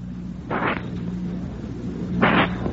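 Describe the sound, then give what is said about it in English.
Two Alka-Seltzer tablets fizzing in a glass of water: two short bursts of hissy, crackling effervescence about two seconds apart over a steady low hum, with no voices. “Now, if you'll just wait till it stops fizzing, and then drink this down.”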